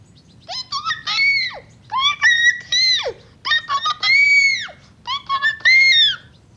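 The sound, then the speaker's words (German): A human voice imitates a rooster crowing loudly, four strained, drawn-out cries in quick succession, each rising and then falling away, forceful with no other sounds. “Nun schrei ich aus vollem Hals, solange ich noch kann.”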